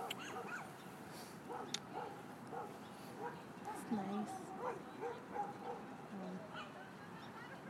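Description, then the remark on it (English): Several dogs bark and yip in irregular bursts at an off-leash park, with a faint honk-like call, while people talk over a busy outdoor background. “I'm a bit problem with the dogs.”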